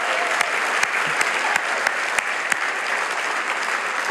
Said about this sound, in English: God is an amazing God. Can we just give God a round of applause? It's been awesome.